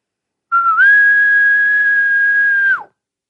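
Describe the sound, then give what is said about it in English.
A person whistles an imitation of a faraway elk bugle: one sustained, piercing tone that starts lower, slides up, holds steadily for about two seconds, then drops off sharply. No talking. “zap him with your faraway elk bugle sound.”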